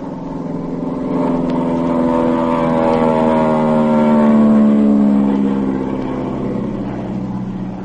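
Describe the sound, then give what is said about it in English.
A droning airplane engine grows louder and passes low overhead as the plane flies over a boat on the ocean, its steady harmonic roar shifting slightly in pitch before easing off again. No one speaks. “I'm going to fly over them.”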